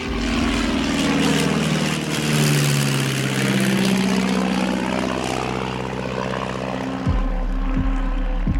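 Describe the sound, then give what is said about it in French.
A second airplane approaches flying at very low altitude: its loud propeller engine roars steadily overhead, pitch sweeping as it passes low, with a throbbing drone continuing throughout and no voices. “C'est là qu'un deuxième avion approche, volant à très basse altitude. Kim l'entend vrombir derrière elle.”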